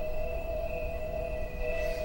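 Field-recorded cricket noise pushed through a filter organ's very narrow bandpass filters tuned to the MIDI keys pressed, leaving a steady, glassy chord of sustained pitched tones over a faint noisy bed for about two seconds, with no one speaking.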